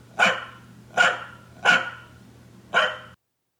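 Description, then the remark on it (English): A corgi barks four times in sharp, fairly high-pitched yaps, with a brief uneven pause between each, over a low steady hum that cuts out at the end. “And I have a clip of what they sound like when they bark.”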